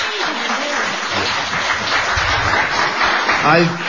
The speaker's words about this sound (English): So, what about giving a nice round of applause to our two guests tonight,